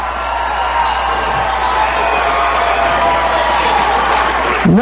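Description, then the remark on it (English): A large crowd at a political speech screams and shouts continuously at high volume, interrupting the speaker, a dense wall of yelling, whoops and cheers that stays loud throughout, with a brief sharp sweep near the end. “I'll let you be rude and interrupt me. Scream at the top of your lungs.”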